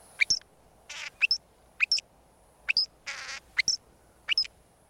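A northern shrike, a robin-sized pale gray bird with black wings and a jet black mask, sings alone: a quirky metallic song of sharp two-note chirps alternating with buzzy, rasping bursts, repeated in a steady rhythm.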